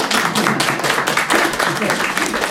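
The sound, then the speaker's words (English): A crowd applauds steadily, with many hands clapping in a dense, even patter that stays loud and fairly constant throughout. “So I really you deserve a round of applause.”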